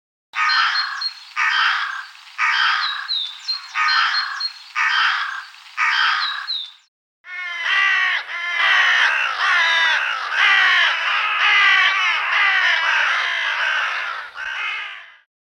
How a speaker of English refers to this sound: Carrion crows sound angry, almost swearing at you, with a triple caw.